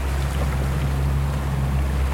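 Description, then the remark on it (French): A wooden sailboat, a replica of an ancient shipwreck, sails at about five and a half knots off Marseille, France, through gentle swell from three-quarters astern, with a constant low rumble under a broad wash of water and wind noise, even and unbroken throughout, and no voices. “On a une houle du 3 quarts arrière là qui est gentillette, mais faut faire gaffe.”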